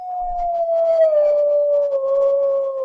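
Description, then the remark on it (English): Coyotes howl in a long, sustained, gliding tone that slowly falls in pitch, with a second voice overlapping faintly above it, heard clearly with no talking. “And those are coyotes.”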